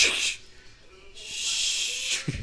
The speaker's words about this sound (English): I like the subtle attempt to open a can mid-taping. Oh, yeah, that was impossible.